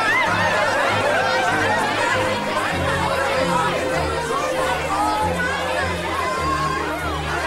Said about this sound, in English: Suddenly, the crowd builds up and jostles around Martha, trying to get close to her.